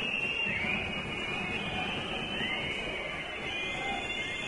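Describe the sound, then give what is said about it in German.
A football crowd whistles steadily as a corner kick is taken, shrill overlapping whistles rising and falling above a dense, constant roar of crowd noise for the whole stretch, with no clear talking. “Achso, Pfiffe, weil man den Schützen da verunsichern will.”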